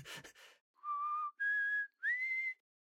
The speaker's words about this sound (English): I brought in … to whistle